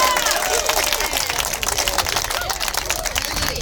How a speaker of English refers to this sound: This is going to be a shouting crowd.